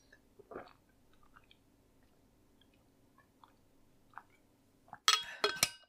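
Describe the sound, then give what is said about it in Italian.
Someone takes quiet sips of water with soft swallowing sounds over a low steady hum, then the glass is set down with a sharp clink and a brief clatter at the end. “Un attimo che mi bevo l'acqua, che oggi sono veramente stanco.”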